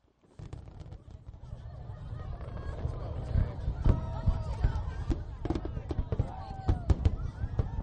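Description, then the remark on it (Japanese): Repeated fireworks bursts boom and crackle in a continuous barrage, with deep rumbling thuds and sharp pops layered over a dense crowd murmur and occasional whistling tones, at a display starting at 9:20 pm watched from a wide pier packed with people; 40,000 shells are fired in 25 minutes, about 1,500 per minute. “ここからは実際に撮ってきた花火の音とともにお送りしたいと思います”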